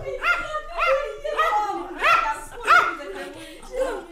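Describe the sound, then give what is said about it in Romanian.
A small dog yaps repeatedly, about seven sharp, high-pitched barks in a quick, steady series with a whiny edge, fairly loud and with no talking. “Eu am adus numai cățelul.”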